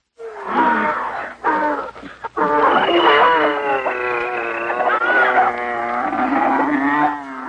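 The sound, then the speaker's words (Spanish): A loud, continuous chorus of animal calls, with deep moos and roaring cries overlapping one another for several seconds, dense and without any pause, as animals of every species, male and female, enter Noah's ark. “Entonces Dios le dijo: reúne a tu familia y de cada especie de animal, pon macho y hembra, entra con ellos en el barco.”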